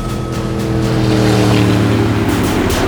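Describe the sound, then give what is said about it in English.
A powerful high-speed patrol boat engine drones steadily as the boat heads west, a loud continuous low hum with rushing water and spray hiss over it, no voices. “Yeah, heading west in a high-speed patrol boat.”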